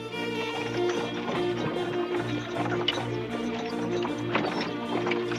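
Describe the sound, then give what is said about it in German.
Three heavily loaded horse-drawn carts leave the town of Weimar with steady clip-clopping hooves, a continuous rhythmic patter of several hoofbeats over a low rumbling drone, moderately loud. “Nur wenige Wochen später verlassen drei vollbepackte Pferdekarren die Stadt Weimar.”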